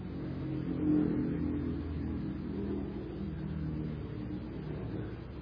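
A motorbike engine rumbles steadily, its low drone swelling briefly near the start and easing back, with no voices.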